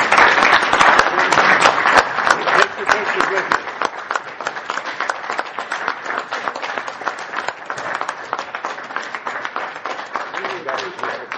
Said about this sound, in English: All right, let's have a round of applause for these folks.